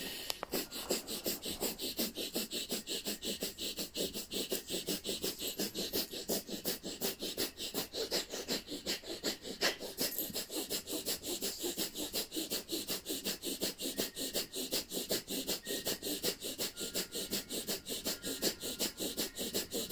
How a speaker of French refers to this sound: Inspirez profondément, étirez-vous vers le haut et restez dans la posture, bien tiré vers le haut, et vous allez pratiquer la respiration du feu, 1 minute dans la posture.